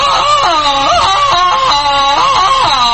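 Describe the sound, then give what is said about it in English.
A man swinging on a vine lets out a loud, sustained jungle yell, his voice warbling and breaking between high and low pitches in a yodel-like cry that carries on for several seconds. “I always yell like this when I get new tires from Moxie Bloom.”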